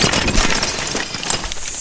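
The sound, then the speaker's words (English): A loud, splintering crash as the engine Percy slithers into a standing train of trucks at a siding, smashing the brake van, a dense rush of cracking and clattering debris that holds steady for under two seconds with no voices. “Then they heard a frantic whistle and a splintering crash.”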